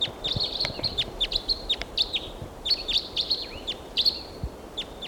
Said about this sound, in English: And meanwhile, here's another bird coming in. The decoys there. Here comes another wild bird.